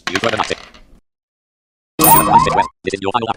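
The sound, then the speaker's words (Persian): A video game sound effect marking the final round: a short burst of bright, tonal chiming notes, a second of silence, then a loud sweeping flourish and a brief closing jingle. “این صدا یعنی دور آخر من.”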